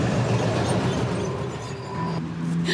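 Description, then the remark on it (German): A train rumbles past, a loud, steady low roar with rattling wheels and a faint tonal whine rising near the end, no voices heard. “Da kam uns jetzt ein Zug dazwischen.”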